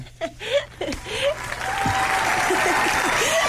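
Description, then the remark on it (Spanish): A brief voice at the start gives way to a crowd's steady applause, which swells quickly and holds as a dense, sustained wash of clapping through the end. “Si dijiste Tania Gaviota, estás en lo cierto y te mereces un aplauso.”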